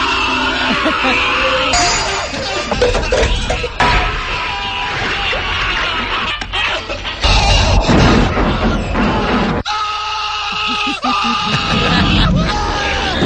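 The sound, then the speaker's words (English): A montage of Bruce Campbell's loud, frantic screaming and yelling from the first Evil Dead film, cut together in quick succession with crashes and thuds, a relentless stream of anguished cries with hardly a pause. “He, of course, was in the first Evil Dead, and there was somebody that put a montage together of just him screaming from the first Evil Dead.”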